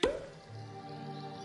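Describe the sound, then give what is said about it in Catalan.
A single sharp cork pop rings out at the start as a bottle is uncorked, fairly loud, followed by a low, steady hum with no voices. “Destapa.”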